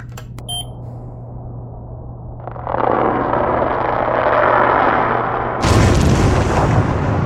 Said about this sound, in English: What's most interesting about this is that high-pitched bubbling sound. I've never heard anything like it. I thought it could be a black smoker or a thermal vent.